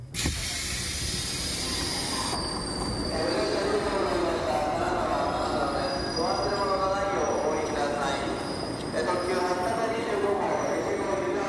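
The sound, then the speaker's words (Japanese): A train halts at Kanazawa Station with a loud pneumatic hiss as its doors slide open, over a steady rumble of the carriage, with muffled voice-like tones drifting in toward the end. “電車が止まりドアが開いた。”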